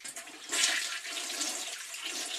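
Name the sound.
toilet flushing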